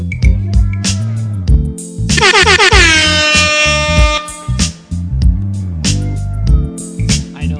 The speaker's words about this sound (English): Yeah, we gotta make the air horn sultry.